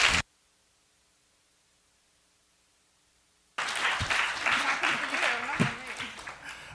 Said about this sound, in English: I hope you'll give them a round of applause to welcome them. Thank you for being here.